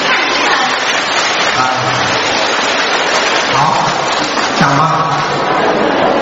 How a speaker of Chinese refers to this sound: 请大家用掌声感谢卢台长。